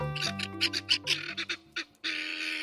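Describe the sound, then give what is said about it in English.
Raucous, harsh calls of helmeted guinea fowl, a rapid series of loud grating cackles followed by a sustained noisy chorus, with no talking. “But from Senegal to South Africa, where the birds are native, their raucous calls are a familiar sound.”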